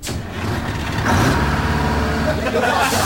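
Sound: bus driving away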